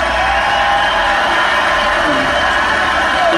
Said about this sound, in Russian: Там овация непрекращающаяся, зал просто соплями исходит, ну, в смысле, радость большая.